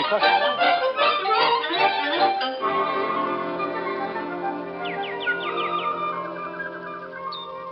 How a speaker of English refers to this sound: Milton, listen to that bird. Oh, it's beautiful. You know, dear, there's something wonderful about a bird.